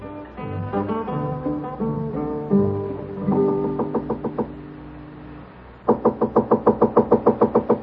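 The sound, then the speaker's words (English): Music plays at first, then fades and is followed by a quick, steady run of about nine loud knocks on a hotel room door at the Carlton Hotel, San Francisco, 1875. No one speaks. “Come in, Hey Boy. The door's unlocked.”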